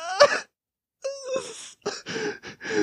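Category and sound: human body sound, crying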